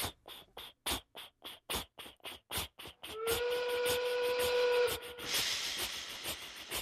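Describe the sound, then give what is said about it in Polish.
A coal-fired steam locomotive chuffs in quick, even bursts as steam drives its pistons and wheels, then lets out a loud continuous hiss of steam with a steady whistling tone through it before the chuffing resumes beneath the hiss. “Spójrz, jak gorąca woda zaczyna parować. Gdy kłęby pary wpadną w tłok, ten zaczyna pracować.”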